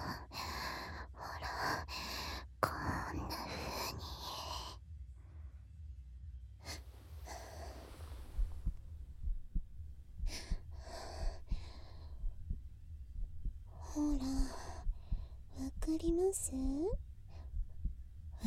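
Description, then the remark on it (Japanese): A person's own rapid, low heartbeat thumps steadily throughout, muffled, while heavy breaths, gasps and soft breathy vocal sounds come and go over it. “私の心臓の音、ドクンドクンって速いでしょ。”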